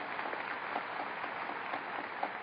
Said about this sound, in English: And I hope we all give her a round of applause of thank you for what she's done for years.